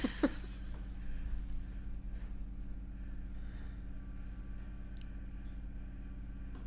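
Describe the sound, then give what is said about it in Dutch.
A washing machine runs in a basement, giving off a steady, low droning motor hum that stays even throughout, with a brief click at the start and a few faint ticks. “Oké, het is niet mijn kachel, het is mijn wasmachine, dus je gaat hiermee moeten leren leven.”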